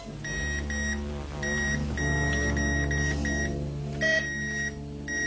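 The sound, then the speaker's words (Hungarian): An electronic disaster alarm beeps in rapid bursts of high, steady tones, separated by short pauses, loud over a low mechanical hum, with no one speaking. “Katasztrófa riasztás.”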